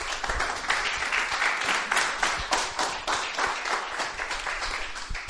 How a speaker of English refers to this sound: Another cheer.